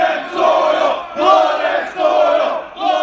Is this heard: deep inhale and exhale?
no